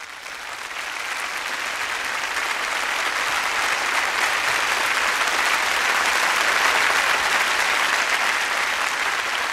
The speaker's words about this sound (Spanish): Erich Künzel ha salido al escenario. Con los aplausos del público, sube al podio y se dispone a dirigir enseguida la orquesta Cincinnati Pops en el poema sinfónico Finlandia de Jan Sibelius.